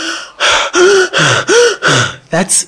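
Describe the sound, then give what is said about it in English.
A voice imitates the heavy, panting gasps of a person who has just run three blocks at full speed: about six loud, ragged breaths in quick rhythmic succession, breathless, like someone completely winded. “He's breathing very deep. He's sucking in big gulps of air because he needs more oxygen than he normally would get by breathing regular.”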